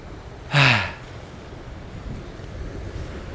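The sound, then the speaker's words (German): Steady wind and rolling surf wash along a seashore on a fairly windy day, a constant broad rush with gentle swells, broken early by one brief, loud, descending cry. “Es ist unglaublich beruhigend und entspannt, einfach so am Meer zu sitzen.”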